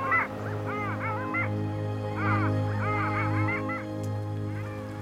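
A long-tailed duck calls in bright, yodeling honks, delivered in two quick clusters of repeated notes, loud, over a steady low droning hum.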